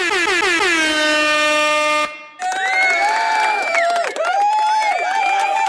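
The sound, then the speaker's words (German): A loud, sustained air horn blast opens, then after a brief break a rowdy live audience cheers and whoops with more horn-like tones, a noisy celebratory din that continues to the end. “Also man merkt schon, unser Live-Publikum tobt und tost.”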